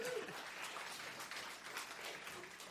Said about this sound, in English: Let's give Tyler a hand clap.